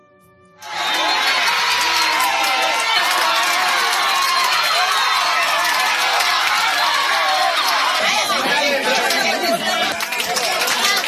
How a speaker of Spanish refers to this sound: Unos gritos y unos aplausos desde Cuba que seguro le alentaron a esta bestia física.